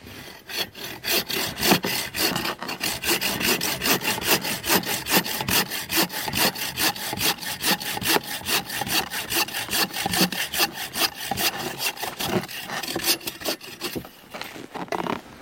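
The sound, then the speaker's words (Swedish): A handsaw cuts straight across a 30-35 cm piece of wood meant for carving a ladle, with quick, even back-and-forth rasping strokes continuing for the whole stretch, no voices present. “Då har du sågat rakt av, men man ska också såga av den på längden, eller hur man säger.”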